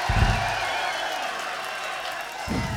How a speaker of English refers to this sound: Now, last but not least, can we please have a really nice round of applause for the meanest, rowdiest, craziest fucking audience in the world. The sick motherfuckers at the Marquee Club in London!